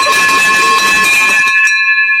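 A bright victory bell rings loudly with clanging strikes for about a second and a half, celebrating a real estate deal, then its clear metallic tone lingers and fades on its own.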